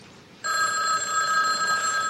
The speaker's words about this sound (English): Just answer the phone or you're gonna look like Charles Bronson.